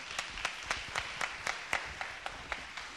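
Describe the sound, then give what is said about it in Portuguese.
Audience applause at the end of a speaker's talk at a forum, a steady rhythm of fairly quiet claps at an even pace, sounding like a small group clapping together for a few seconds with no voices. “Eu queria mesmo lhe aplaudir.”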